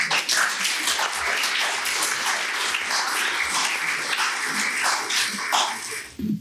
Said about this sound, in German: und dich bitten, den Anfang zu machen mit deinem Vortrag, nicht jedoch ohne Sie, meine Damen und Herren, auch nochmal um Applaus zu bitten. Vielen Dank.